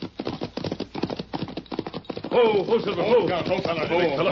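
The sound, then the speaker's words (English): Galloping hooves of the Lone Ranger's horse Silver and Tonto's horse Scout pound on a trail in a quick, steady rhythm, fairly loud. About halfway through, a loud voice calls out over the continuing hoofbeats. “Come on, Silver. Head him up, Scout.”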